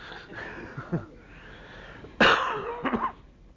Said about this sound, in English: I'm still coughing, lad, but not as bad.